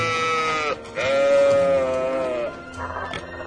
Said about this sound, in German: Ist das ein Lama mit einem Hammer? Ein Alpaka, die spucken fast nie, sei denn sie haben Angst oder werden erschreckt.